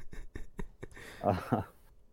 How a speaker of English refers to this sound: Why are you typing? Because I bet you I can find it faster than you.